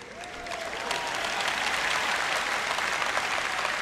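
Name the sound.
applause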